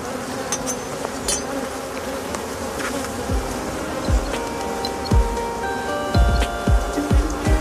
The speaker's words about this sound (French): effectivement, l'autre ruche, c'est une ruche qui est très forte. En ce moment, il y a à peu près 40 à 50 000 abeilles à l'intérieur.